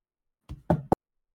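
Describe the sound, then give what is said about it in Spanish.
Scissors slowly cutting open a packet of cookies: a short rustle, then a longer papery crunch and one sharp final snip, heard alone with no voices. “Así que abre lentamente el sobre con las tijeras.”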